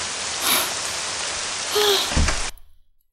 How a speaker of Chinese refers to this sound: 天哪，下雨下的可真是又大又突然。全身上下都淋湿了，可真大呀，这雨点打的身上生疼生疼的。